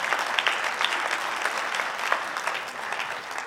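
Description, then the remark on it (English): An audience claps together during a sermon in sustained, dense applause, a steady crackling wash of many hands with no voices standing out, holding at an even level throughout. “You know, that was the biggest clap we've had this entire sermon.”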